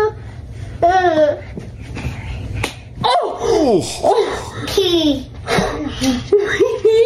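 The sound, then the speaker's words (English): A sharp slap as an older child slaps a younger sibling's head at home, amid a small child's high squeals, babbling and giggles, with the children's voices continuing excitedly around it. “But what about the first moment that the older one slaps the younger one, which was caught on film by this family?”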